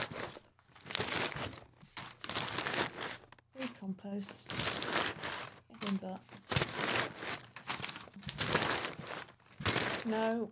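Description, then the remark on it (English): Crinkly rustling of crumpled, torn-off paper scraps being rummaged through in a bin, steady, with a person talking briefly over the shuffling. “I was literally in the bin trying to find”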